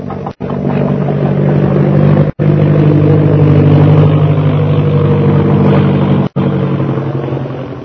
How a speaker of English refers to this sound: Speak of flying, listen. You hear an airplane motor? Yes. There is airplane. And there's Purple Triangle.